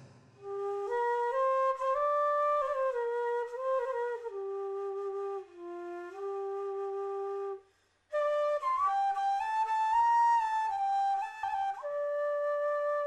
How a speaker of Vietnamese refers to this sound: Bỗng nhiên trong không gian lại réo rắt tiếng sáo.